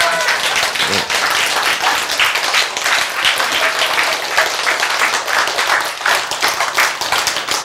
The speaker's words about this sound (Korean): 그러면 뭐 하면 되는 거요? 박수 치면 되는 거지.